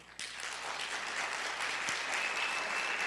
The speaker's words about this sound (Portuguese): Então, uma salva de palmas para você mesmo.